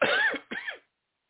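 Two quick, raspy coughs from a man, fairly loud, the second slightly weaker, followed by silence.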